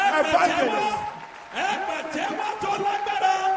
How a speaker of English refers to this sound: Now, with a loud clap of applause, put your hands together as we invite the servant of God.